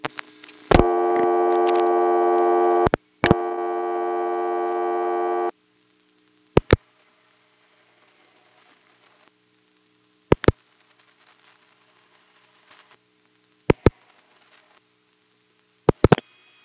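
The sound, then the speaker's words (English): A telephone line on a 258 number, reached by accidentally dialing some combination of digits, rings with two long, steady buzzing tones separated by a short gap, followed by silence broken by several sharp, evenly spaced clicks on the line. “I didn't actually dial 258, but I dialed some combination of digits that put me on there anyway, and was ringing it before I knew it, and we got an answer.”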